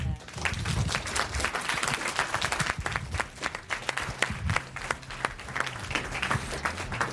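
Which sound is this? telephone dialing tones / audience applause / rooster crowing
audience applause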